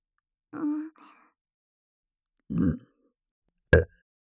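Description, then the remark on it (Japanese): Three short, close-up burps, ordinary burps deliberately performed for a listener in a binaural recording, with pauses between them: a voiced, slightly tonal first one, a deeper rumbling second, and a brief sharp final pop, with no talking. “人に聞かせるためにゲップするなんて、初めてです。”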